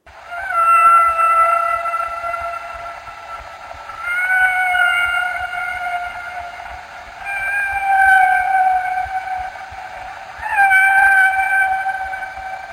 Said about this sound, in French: Tout d'abord, le son d'un chant d'une baleine à bosse.